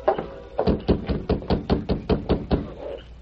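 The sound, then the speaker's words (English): Someone raps at night on the wooden door of the Dawson Ranch with a quick, steady run of about a dozen hollow knocks, evenly spaced and fairly loud, with no voices. “They reined up, dismounted, and rapped on the door.”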